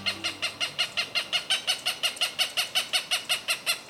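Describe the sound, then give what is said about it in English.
A Cooper's hawk gives a rapid, steady series of harsh cak-cak-cak calls, about four per second. The loud notes run evenly throughout with no talking. “Resident Cooper's hawks that nest in the urban areas of Albuquerque, New Mexico, are thriving.”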